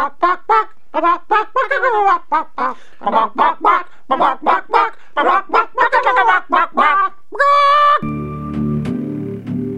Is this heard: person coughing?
no